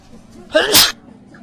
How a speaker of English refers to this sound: And hold on, I'm going to sneeze.